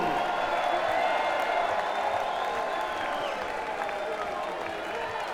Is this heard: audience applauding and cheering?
yes